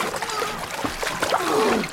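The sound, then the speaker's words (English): Water splashes and sloshes steadily, with irregular churning bursts like a paddle stroking through the water beside a small boat being paddled back to the bank, continuing throughout the two seconds. “Hold on to the boat! I'll paddle it back to the bank.”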